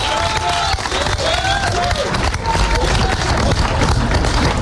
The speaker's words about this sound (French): à son animateur qu'on peut applaudir encore une fois. Parce que, un grand chapeau.